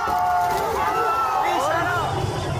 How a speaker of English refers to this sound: Demonstrators in Iran push back against authorities in Mashhad, protesting the death of Mahsa Amini.